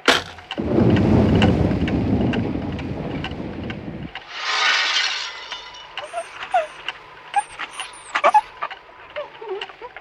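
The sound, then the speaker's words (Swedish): A loud clap of thunder during a thunderstorm rolls and rumbles for several seconds, then fades into a brief hissing rush of wind or rain, followed by scattered faint crackles and small chirping sounds. “Ja, förresten är livsfarligt att telefonera åskväder så det är så.”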